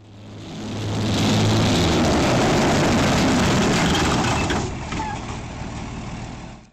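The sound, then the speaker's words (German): Russian tanks, armoured personnel carriers and thousands of tracked vehicles massing at the Ukrainian borders rumble together in a loud, dense mechanical roar, deep engine drone swelling up in the first second and holding steady before easing slightly at the end. “Das ist der russische Aufmarsch an den ukrainischen Grenzen. Panzer, Mannschaftstransportwagen, tausende von Kettenfahrzeugen.”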